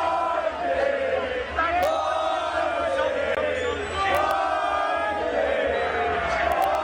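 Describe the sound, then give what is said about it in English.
A large racecourse crowd chants and cheers together after the Railway Stakes race in loud, sustained rhythmic waves of many voices, filling the whole stretch with dense, continuous roaring sound. “So that was the chant after the Railway Stakes”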